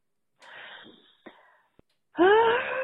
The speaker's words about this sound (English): I think I just needed to scream. And I guess woo. Because this is the shit show I live in now.